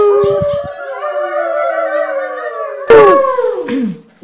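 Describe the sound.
A dog howls in a long, wavering, sustained tone, then breaks into a couple of loud, sharp barks with falling yelps near the end, clear with no talking.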